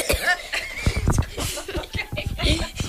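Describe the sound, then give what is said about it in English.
A room full of people cough and clear their throats at once, a dense jumble of overlapping rasps and bursts, with some chuckling mixed in. “It's a cough versus clearing, but okay.”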